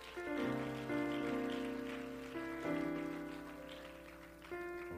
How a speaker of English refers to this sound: In Jesus' name, would you clap your hands to the Lord once again?